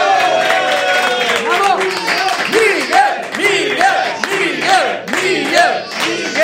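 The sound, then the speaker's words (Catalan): A crowd cheers "Bravo" and applauds literature after the mention of Miguel de Cervantes, many voices shouting in rising and falling bursts over a steady wash of clapping, loud and sustained for the whole stretch. “Aplaudint la literatura.”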